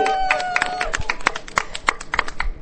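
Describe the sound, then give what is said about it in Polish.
Applause from a small group welcoming a guest from Radio Rodzina during a pilgrimage walk: scattered, uneven hand claps at a moderate level, with a faint voice sustaining a tone during the first second. “Gromkie oklaski!”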